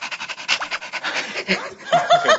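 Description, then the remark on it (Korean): Rapid, rhythmic panting breaths made by a person imitating a puppy panting when hot, as a dog-breathing exercise, a quick steady series of huffs, with a bit of voiced, laugh-like breathing near the end. “짖는 소리를 내는 게 아니라 강아지가 더울 때 우리가 헥헥거리잖아요.”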